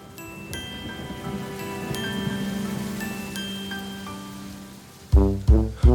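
Steady rain patters down for several seconds, a soft continuous hiss beneath faint sustained tones, then three loud, punchy musical notes cut in near the end.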